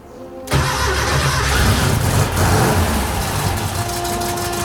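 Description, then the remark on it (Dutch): A car engine cranks and catches after a brief quiet moment, then runs loudly and steadily with a rough, rumbling revving tone. No one speaks. “Zo klinkt hij altijd.”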